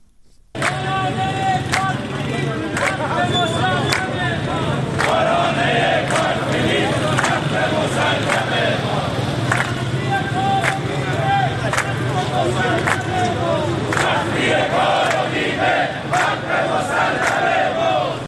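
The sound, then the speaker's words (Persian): Private-sector bus drivers protesting on a Monday in front of the president's office in Tehran chant a slogan loudly in unison, "Driver, don't start the engine until they give you your rights", voices rising and falling rhythmically over steady background clamor, with occasional sharp claps or bangs punctuating the noise. “به گزارش سندیکای کارگران شرکت واحد اتوبوسرانی تهران و حومه آن، آنها شعار می‌دادند تا حقتو ندادند استارت نزن راننده.”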